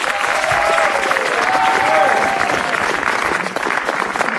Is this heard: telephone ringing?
no